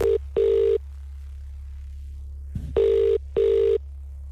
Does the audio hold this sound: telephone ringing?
yes